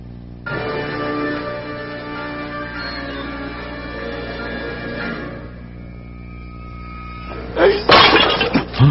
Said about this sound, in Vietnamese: Xỉnh rượu quý này của ta cất giấu nhiều năm, người lại làm bể mất của ta.